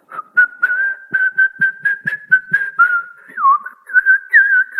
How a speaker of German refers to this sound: Ja, da kann man sogar pfeifen.